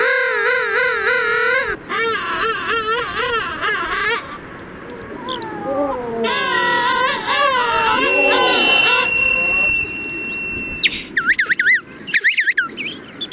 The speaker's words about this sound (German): Aber naja, bislang hat er noch nicht so richtig viel zu befürchten, der Königspinguin, der Bilderbuch Schöne Vogel, der uns ein wenig in den Winter geleitet, nicht wahr?